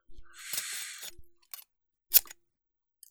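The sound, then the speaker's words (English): A long, bright rasping snip followed by a few short, sharp metallic clicks and one crisp cut, like scissors working. “I have scissors in the nightstand for just this reason.”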